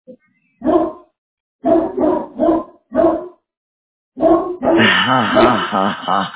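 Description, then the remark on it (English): A large dog, a Great Dane, barks loudly: a single deep woof, a quick burst of three, another single bark, then a longer run of drawn-out, howling barks. “I hear a big dog right there.”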